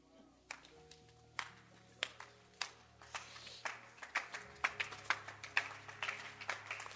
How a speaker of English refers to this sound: Oh, don't clap. I don't think it's necessary to clap.